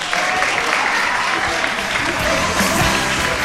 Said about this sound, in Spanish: Un aplauso.